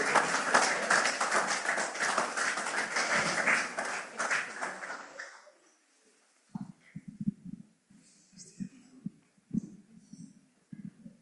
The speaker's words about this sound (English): Amen. You in your fellowship, praise the Lord. Can we get a clap for our brethren here if they come up?